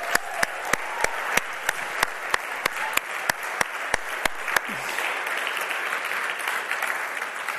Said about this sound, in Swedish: Så du som är finne, tycker jag, eller finländare, annars blir det klent med applåderna. Du som är finländare, ge alla våra internationella en stor applåd.